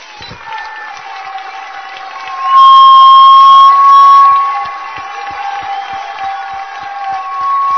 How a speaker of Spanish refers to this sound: Yo siento un profundo agradecimiento, un gran reconocimiento, una admiración tremenda por la compañera y los compañeros ministros que trabajaron hasta este momento con nosotros, para lo que le pido el más fuerte de los aplausos.